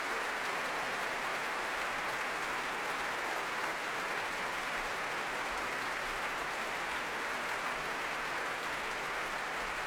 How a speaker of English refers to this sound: Philippe Jordan bringing the whole orchestra to their feet. He and Jean-Yves Thibaudet taking applause together.